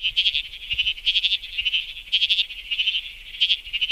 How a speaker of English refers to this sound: It's the bleating froglet. This is a tiny little frog, and it calls and sounds a lot like a sheep. It does sound like a sheep, kind of insect-like, insect sheep-like.